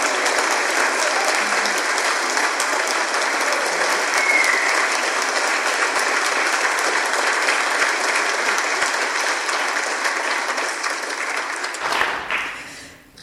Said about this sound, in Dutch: Zullen we hem even uitluiden met een applaus?